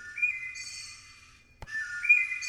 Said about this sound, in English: Well, I've been playing with the thrushes in my neighborhood. What's so special about the thrushes? So, you know, the interesting thing, here's the thrush at its normal pitch, and then you drop it in pitch.